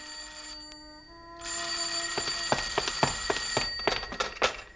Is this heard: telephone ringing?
yes